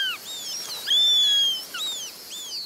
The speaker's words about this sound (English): As you traverse the animated ecosystem, listen for the calls of over 50 birds, like the Eurasian sparrowhawk.